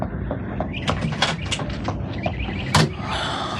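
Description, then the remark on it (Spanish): A door closes as someone leaves: a few light clicks and rattles of the handle, then a firm shut near the end, followed by a quiet hiss. No one speaks. “Brenda desaparece tras la puerta.”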